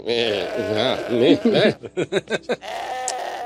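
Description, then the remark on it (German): A pet house goat bleats loudly, first a long wavering cry, then a quick run of short choppy bleats that fade into quieter background noise. “Nein, das ist seine Hausziege. Er hängt sehr an ihr.”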